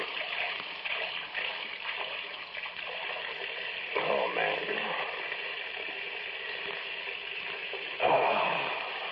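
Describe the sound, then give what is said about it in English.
Tap water runs in a steady, hissing stream into a glass in a small kitchen for several seconds, swelling a little louder partway through. A man briefly mutters under the rushing water. “I better be getting out of here after I get a drink. Kitchen.”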